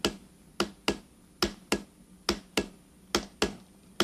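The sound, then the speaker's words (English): About ten sharp hammer blows ring out on metal in a steady, slightly paired rhythm, each a crisp impact that fades quickly, with no voices over them. “You have the weight of the hammer. It gives you the rhythm.”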